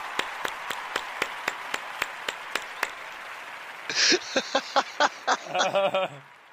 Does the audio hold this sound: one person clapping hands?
yes